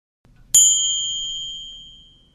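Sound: gong strike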